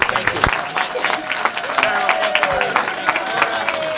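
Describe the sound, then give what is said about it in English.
Steady applause from a sizable audience at a National Federation of the Blind gathering, thanking an honoree for his efforts. The dense overlapping claps are fairly loud, with faint voices mixed in underneath. “For your countless efforts on our behalf, we of the National Federation of the Blind thank and applaud you and wish you all the best in your future endeavors.”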